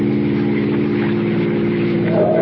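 A car engine hums loudly and steadily, its pitch rising slightly near the end as the driver speeds up. No voices are heard.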